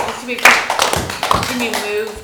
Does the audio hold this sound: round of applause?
yes